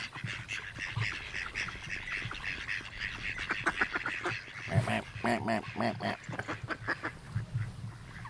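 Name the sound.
mallard ducks quacking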